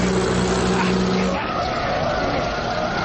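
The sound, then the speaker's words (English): A speeding 100 horsepower Benz car, the latest type with a double carburetor and a maximum speed of 73 miles an hour, roars past on a road with tires skidding and screeching. The loud engine drone holds a steady pitch, then drops lower about halfway through as the rushing noise continues. “The damn fool nearly had us off the road. I hardly saw him. No one should be able to go that fast.”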